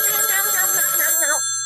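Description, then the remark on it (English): A telephone rings with a loud, warbling electronic tone that wavers rapidly in pitch, then cuts off abruptly, leaving only a faint steady hum. “Oh, it's ringing still.”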